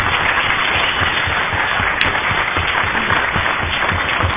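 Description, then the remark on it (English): An audience applauds steadily for about four seconds for the extradition of Slobodan Milosevic to The Hague, a dense, even wash of many hands clapping at full volume with no voices rising above it. “It would be very nice if we had a round of applause for the extradition of Slobodan Milosevic to The Hague last week.”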